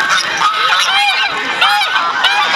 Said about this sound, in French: Tout à fait, donc là on a eu l'occasion de venir avec notre troupeau de 50 oies, avec plein de races différentes, et on est venu montrer ça au plus près des gens